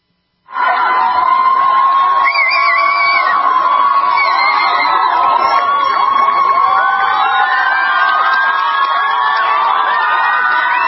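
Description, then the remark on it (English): A dense crowd of protesters in Sweden shouts and yells continuously as they attack a police vehicle, voices overlapping into a loud, steady roar with occasional higher-pitched cries rising above the din, sustained without a break throughout. “Swedish policewoman takes a knee, cries after protesters attack her vehicle.”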